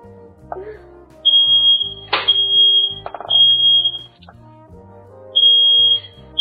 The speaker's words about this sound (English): Is it boring to have the smoke alarm go off? No.